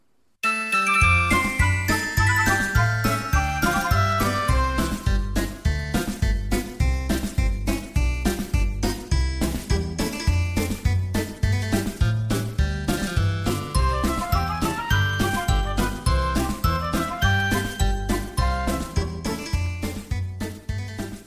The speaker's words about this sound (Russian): Бежала лисичка по лесу. Бежит, а на веточке колокольчик висит и звенит.